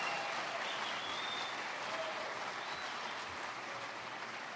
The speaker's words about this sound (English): How about a round of applause for our 80 rock star heroes? Yeah, that's great. I love it. Perfect.